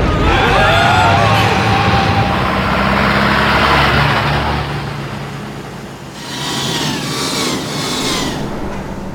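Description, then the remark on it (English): A taxi cab's engine roars as it accelerates hard, followed by a screech of tires as the cab swings through a sharp left turn, loud, with no voices. “Take a left here, cabby. No entry, mate. Commit a traffic offence or get blown up.”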